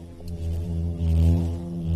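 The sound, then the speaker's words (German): A bumblebee buzzes steadily for a couple of seconds, a low droning hum produced by its very fast wingbeats that swells slightly in loudness, with no voices present. “Auch Hummeln, Wespen und Hornissen brummen, summen.”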